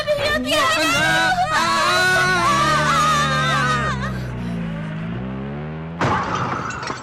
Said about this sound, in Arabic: هكذا يبدأ المحرك بالعمل.